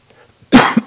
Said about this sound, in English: Excuse me, I'm going to have a coughing fit. Try not to cough on you people.